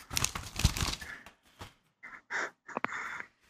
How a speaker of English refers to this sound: I'll have to find the list, which I think is right here. I love the sound of uncrinkling paper, though, for real.